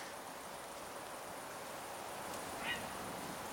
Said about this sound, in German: ich glaube, irgendein Vogel. Der hat so gemacht gerade. Ja, so.